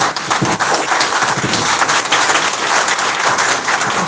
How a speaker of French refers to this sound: je vais nommer Patrice Guillaume-Athanase Talon, que je vous prie d'applaudir fortement.